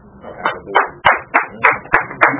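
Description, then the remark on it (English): Steady hand clapping, about seven sharp claps in an even rhythm, fairly loud, one speaker applauding alone. “I have to applaud that myself because I lived in a system where I thought I had to maintain good works to be saved.”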